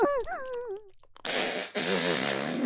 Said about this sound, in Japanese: まだ出る。おなら、止まらない。